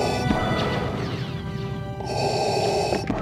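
Darth Vader's mechanical respirator breathing sound effect from Star Wars: one long, raspy hissing inhale followed by a matching exhale, loud and steady with a faint metallic hum, and no voices.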